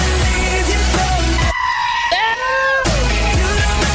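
goat bleating

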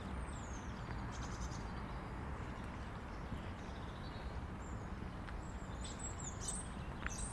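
birdsong

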